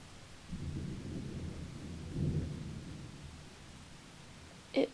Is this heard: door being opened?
no